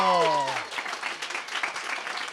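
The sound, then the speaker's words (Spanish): A crowd breaks into steady applause for a team's result of 24 points in a competition on a radio programme, a dense, even patter of many hands clapping. It follows a brief trailing bit of a voice at the start and continues strongly to the end. “¡Un fuerte aplauso!”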